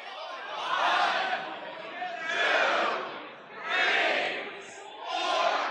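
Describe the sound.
A crowd at a VGC competition venue excitedly chants in unison, apparently counting aloud, with four loud swelling shouts spaced evenly about a second and a half apart and a murmur of voices between them.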